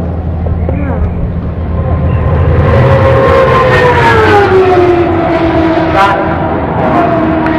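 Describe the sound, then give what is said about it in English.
A loud race car engine, with a turbocharger in the center of the car, roars steadily, its harmonic whine sliding lower in pitch as it runs, with a constant rumbling background throughout. “Listen to it compared with the cars we heard on the other side.”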